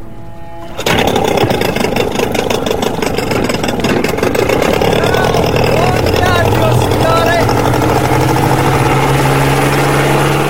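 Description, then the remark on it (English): A small boat engine abruptly sputters to life after a brief quiet moment, then settles into a loud, steady idle for a boat ride around the port, with indistinct voices faintly audible beneath the drone. “… takes the tiller and we head out to sea”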